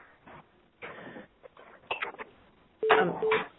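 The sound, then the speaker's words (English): Telephone keypad tones beep over a noisy conference line, short steady pitched blips near the end amid muffled background rustling and faint murmuring. “With that, pause and hearing some background noise, and there's some beeping that's going on that's a little distracting.”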